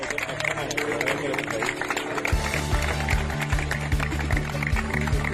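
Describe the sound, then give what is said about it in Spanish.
Soldiers of the UME military emergency unit clap steadily to welcome students returning to the Nuestra Señora del Socorro school in Benetúser, Valencia, a dense, continuous patter of many hands amid crowd murmur, with a low droning hum joining partway through. “Con esos aplausos de los militares de la UME volvían los alumnos del colegio Nuestra Señora del Socorro de Benetúser”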